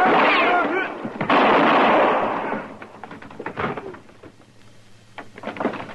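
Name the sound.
gunshot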